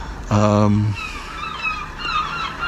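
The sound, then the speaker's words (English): A deep horn blast sounds briefly, then several thin, high seagull cries follow in quick succession over a steady outdoor harbour background. “There go the seagulls.”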